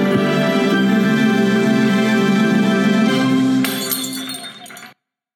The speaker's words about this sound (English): But as we end every episode, we raise our glasses and we say, Zootuapa. Cheers.